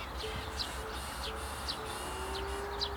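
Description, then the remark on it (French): Thin, very high-pitched goldcrest (kinglet) calls repeat about every half second, faint, over a steady low outdoor rumble with no one speaking, in a mixed beech and spruce forest. “Dans ces zones d'épicéas, on a souvent des roquelets, c'est des tout petits oiseaux, comme des petits pouillots. Je crois que c'est ce qu'on entend.”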